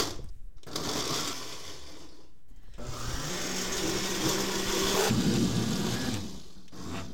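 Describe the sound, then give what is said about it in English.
A blender filled with chopped tomatoes, onions and peppers whirs in short bursts, with brief pauses between, then runs longer as its motor pitch shifts and the chunky contents churn and grind, ending in a final stop; in Portland on a hot day. “All right, so I'm just ladling all the chopped tomatoes, onions, and peppers into the blender.”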